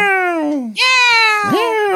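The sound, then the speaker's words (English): A human voice imitates a cat, giving two drawn-out, rising-and-falling meows back to back, loud with no other sounds around them. “The laughing kitty, meow meow.”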